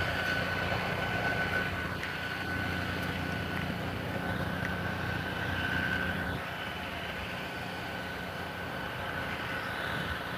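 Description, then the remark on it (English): A towed, trailer-mounted sidewalk cleaner blower, pulled by a vehicle driving alongside the sidewalk and blowing debris off it, roars steadily, a dense, unbroken engine-and-air rush with a thin whining tone on top, staying loud and even throughout with no voices. “It's a sidewalk cleaner. He's towing it along, he's driving alongside the sidewalk and blowing all of the stuff that's on the sidewalk.”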